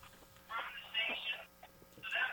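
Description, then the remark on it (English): A telephone at a radio station rings in repeated bright electronic bursts, moderately loud, with faint voices murmuring underneath. “so give us a ring as the phone continues to ring here at the radio station.”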